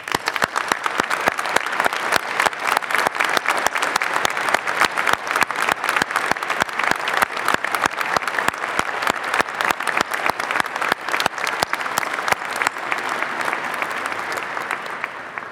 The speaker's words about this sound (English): I invite the audience to give all of our graduates a round of applause.